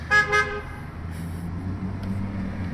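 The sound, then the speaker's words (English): Two quick, loud honks from the horn of a Corvette driving by, then a steady low rumble of passing street traffic and engines that carries on to the end. “We're outside, by the way, so you're going to hear some horns and traffic and cool stuff like that.”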